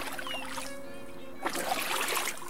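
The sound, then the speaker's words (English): Boat paddles splash in sea water as students take tentative paddle strokes out to sea in a newly launched boat, a steady watery churn that swells into a louder burst of splashing after a quieter stretch with a faint low hum. “They pushed the boat into the water, and the students took some tentative paddle strokes out to sea.”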